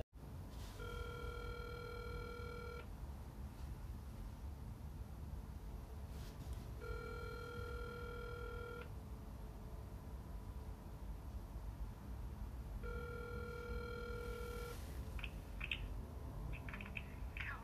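A phone line's busy tone repeats three times while calling someone, each steady electronic beep lasting about two seconds with long gaps between, over a constant hiss, with a few faint clicks near the end.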